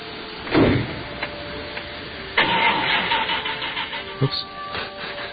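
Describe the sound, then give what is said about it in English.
A car engine cranks with a short burst, then catches and roars to life, settling into a steady rumble with a few revving surges. “I got the car started, didn't I?”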